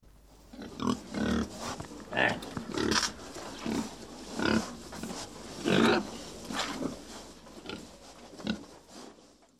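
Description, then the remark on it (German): A pig grunts and snorts repeatedly in short, irregular bursts, moderately loud, with brief pauses between the rough, nasal calls. “Das Schwein grunzt und schnauft.”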